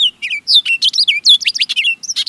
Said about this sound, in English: Of all American presidents, just one might have halted the playing of Hail to the Chief so he could listen to an orchard oriole singing outside the White House.